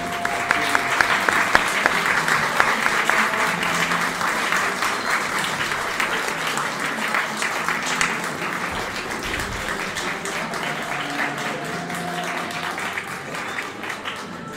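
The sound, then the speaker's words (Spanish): Sustained applause from a sizable audience, dense and steady clapping for the whole stretch, loud with no break. “Y un aplauso para ustedes y un agradecimiento por estar.”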